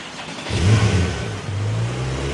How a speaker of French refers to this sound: Ah, ce petit bruit de moteur.